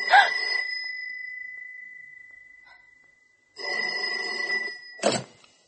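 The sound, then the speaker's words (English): An old-fashioned telephone bell rings in two loud metallic bursts, the first ringing out and slowly fading over a few seconds, then after a pause a second jangling ring cut off abruptly with a clunk. “Dirty old phone.”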